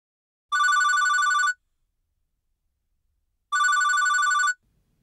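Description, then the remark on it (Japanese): A telephone at the Nico Nico Pizza Nakano shop rings twice, each ring a steady electronic trill lasting about a second, separated by a few seconds of silence. The ringing is clear, with no voices. “お電話ありがとうございます。ニコニコピザ中野店でございます。”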